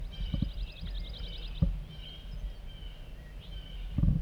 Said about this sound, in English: Chittering by a wild bird coming in.